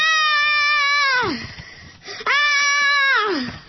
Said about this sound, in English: Once these ingredients were properly mixed, the latke was slapped into a pan full of olive oil, heated to a very high temperature, and this is when it began to scream.